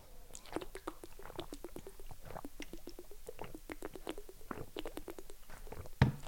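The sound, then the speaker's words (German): Wet gulping and swallowing sounds with small mouth clicks, steady throughout as someone drinks water during a short drinking break, ending with a louder knock. “Komm, wir machen nochmal alle zusammen eine schöne kleine Trinkpause und dann schweigen wir einmal nochmal 30 Sekunden.”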